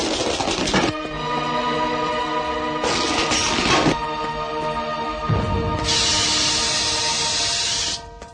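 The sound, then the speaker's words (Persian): A hand-thrown smoke and tear-gas grenade crashes through breaking glass into an agency office with sharp, clattering bursts, then lets out a loud, steady hiss that runs for a couple of seconds before cutting off. No one speaks. “دستی نارنجک دودزا و اشکاور به داخل آژانس میندازه.”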